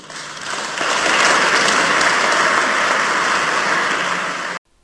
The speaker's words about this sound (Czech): No, myslím, že ten závěrečný potlesk vypovídal úplně o všem, jak vyzněla slova pana prezidenta.